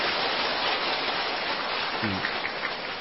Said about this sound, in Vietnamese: Xin quý vị cho một tràng pháo tay cảm ơn thượng tọa trụ trì.